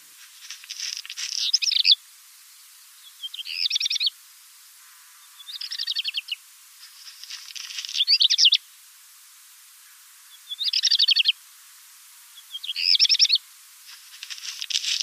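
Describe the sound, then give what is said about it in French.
A songbird sings its stereotyped song alone in a clear recording: a series of short high phrases, each opening with twittering, then crunchy grating notes, and closing in a rhythmic flourish, separated by brief pauses. “Son chant stéréotypé commence par un gazouillis, suivi d'un bruit de vers pilé et d'un motif final rythmé.”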